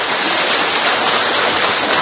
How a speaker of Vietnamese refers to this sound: Rồi thưa anh chị em, chúng ta cho một tràng pháo tay thật to nữa thưa anh chị em.